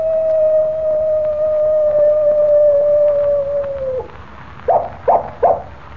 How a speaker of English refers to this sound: Did you hear that? I certainly did, Jimmy. It was a coyote. And here it comes now. Well, I'll be... Why, it's a real coyote.